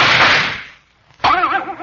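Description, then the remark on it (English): A loud, sharp gunshot effect, the enemy shooting a fig bar out of someone's hands, bursts out and its rough noise trails off over half a second; after a brief silence, a wavering, warbling whine starts up abruptly. “He'll shoot that fig bar right out of your hands.”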